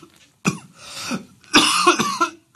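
human body sound, coughing

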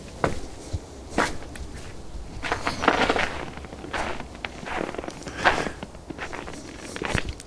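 nature, footsteps crunching in snow

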